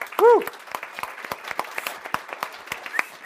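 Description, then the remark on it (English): A small audience applauds the staff of a webcast show with steady, irregular claps lasting a few seconds, opened by a brief rising-and-falling vocal whoop. “So big that hand is to the staff.”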